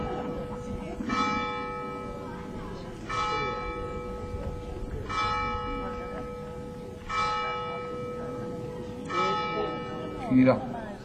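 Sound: bell ringing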